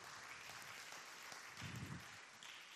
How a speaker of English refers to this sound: Clap your hands for Jesus. Amen.